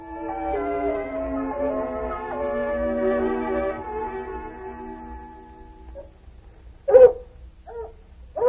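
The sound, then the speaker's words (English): A hound puppy named Lady Anne gives a long, wavering whimper that slowly sinks in pitch, followed after a short pause by a few sharp, high yelps, fairly loud. “She's got a voice like a little rabbit squeak.”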